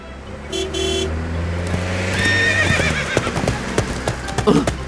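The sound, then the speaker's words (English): A horse whinnies loudly over the rumble of a passing car as it runs alongside the car, followed by a quick run of clattering hoofbeats, with a short horn-like toot near the start. “The horse sees the car. The horse runs with the car.”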